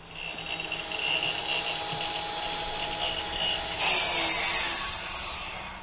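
A saw hums with a steady high whine, then bites into a wooden board with a loud, harsh rasp that slowly tapers off toward the end. The boards are being cut for rebuilding a boat at Project Playground. No one speaks.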